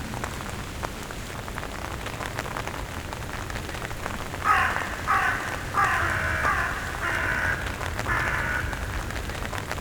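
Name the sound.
common raven calling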